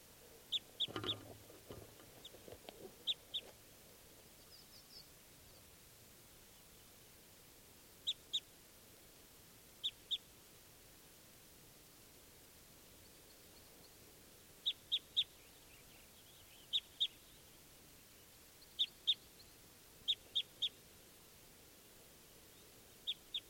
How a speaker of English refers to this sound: is another wild bird.